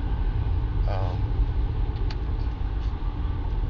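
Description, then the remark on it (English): A van or bus with a Huskers emblem on it rumbles past, its deep engine drone steady and loud across a few seconds, with road noise filling the low end. “Just went by like a handy van or handy bus that had a Husker thing on it.”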